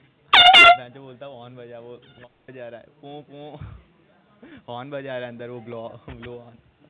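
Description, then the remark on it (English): A single short, loud air horn blast, blown to keep a scammer busy, rings out at the start, then a person talks for the rest of the time with no further honks. “Listening to my air horn, the less time you have to scam somebody.”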